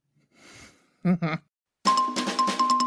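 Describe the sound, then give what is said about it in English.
A loud burst of bells rings with a rapid, pulsing jangle for about a second, preceded by a soft breathy sound and two short vocal syllables. “Get me the bells.”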